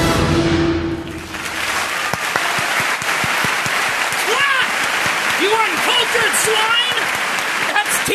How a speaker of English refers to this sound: Okay, is there literally 15 seconds of clapping at the end of this?